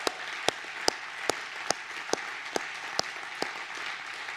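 A church audience applauds in a steady wash of clapping, with a row of sharp, evenly spaced claps standing out in a regular rhythm, about two per second, and no voices.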